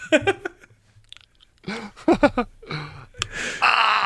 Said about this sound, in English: Putting in Invisalign is definitely great for an audio medium. Just crunching and slurping.